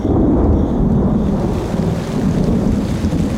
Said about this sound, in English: Most days it rained just a little. Sometimes there was a downpour.